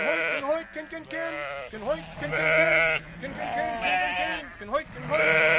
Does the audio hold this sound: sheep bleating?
yes